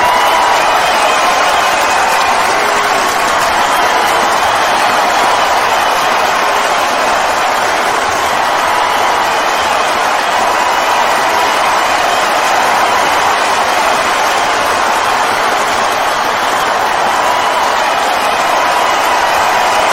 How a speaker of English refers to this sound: Hear the crowd. Holy crap. Look at this crowd. It's massive. They're going nuts. They can't wait to hear him.